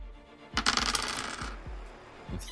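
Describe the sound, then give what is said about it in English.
A handful of ten dice, five base dice and five stress dice, rolled for a ranged attack in a tabletop game, clatters across a hard tabletop in a quick burst of rattling impacts, settling after about a second, followed by one more faint click. “So this is 5 base die and 5 stress dice.”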